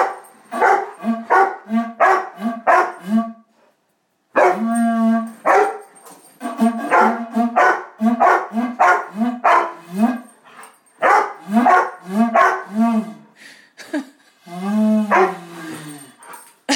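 dog barking

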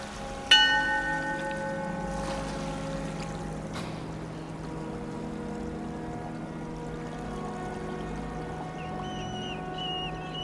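ship's bell ringing

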